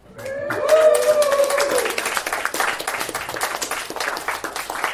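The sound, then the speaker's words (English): An audience applauds a defendant brought before a comedic mock court, with dense, steady clapping that lasts the whole clip, while a loud whooping cheer rises over it in the first couple of seconds before the clapping carries on alone. “You can applaud harder for a criminal like that.”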